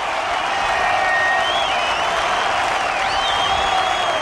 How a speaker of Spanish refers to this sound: en Woodstock, ¿eh?, en 1969, anda que no ha llovido, mira, escuchamos los aplausos.